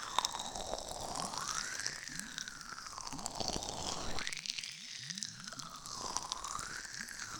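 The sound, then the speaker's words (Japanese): Dense crackling and fizzing of foam bubbles popping in the ear, with a slow rising and falling whoosh of sea sound sweeping through in waves. No voices. “泡の中で海の音に包まれながら気持ちいい耳の中で普段生活している地上じゃ決して味わえない感覚なのよ。”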